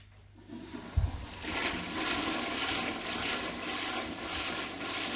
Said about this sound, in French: Va à la salle d'eau. Faire sa toilette du matin devant le lavabo.